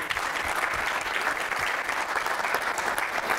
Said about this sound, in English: Okay, all right. Well, let's give her a clap and get her up here.